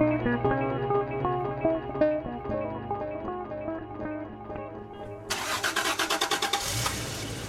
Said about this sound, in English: The engine turns over. I negotiate my 93 Toyota pickup out of Seattle towards a day of climbing in the mountains.